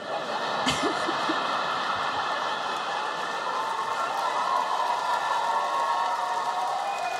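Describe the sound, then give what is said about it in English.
An audience cheers in a loud, steady roar of many voices that holds at an even level for several seconds without dying down. No one speaks over it. “I can't even think what that cheer's for.”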